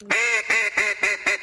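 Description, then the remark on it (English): Five loud, raspy mallard hen quacks blown on a duck call, in a quick steady cadence with brief gaps, each note dropping slightly in pitch. “Here's the old greenhead, the old mallard drake. Now, the hen, this is the hen.”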